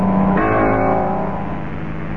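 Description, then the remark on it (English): A car engine hums steadily, its pitch shifting up briefly as the vehicle rolls slowly up a driveway, returning from the village; no voices. “Suddenly, I heard a car coming up the drive.”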